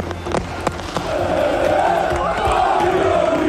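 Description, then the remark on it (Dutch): A crowd of Ajax football fans sings together in a loud, sustained chant to welcome the players after a 2-0 win over Feyenoord, with sharp claps and thumps popping out early on before the singing swells and holds steady. “En dus vingen Ajax-fans de voetballers op met gezang en applaus.”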